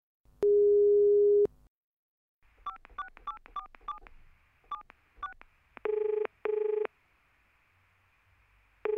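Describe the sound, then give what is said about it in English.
A steady telephone dial tone, then a quick series of keypad touch-tone beeps as a number is dialed, followed by two loud, evenly spaced ringing tones as a phone call from a car mechanic connects. No voices. “Phone call from the mechanic.”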